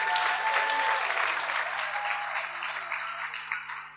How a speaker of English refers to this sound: Come on, let's give Jesus a clap and praise. İsa'yı yüceltelim.